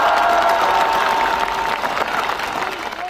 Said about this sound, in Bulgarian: Никола Минчев беше човека, който започна този парламент. Ръкопляскане за него!